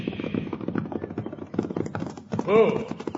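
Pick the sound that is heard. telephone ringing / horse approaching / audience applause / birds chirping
horse approaching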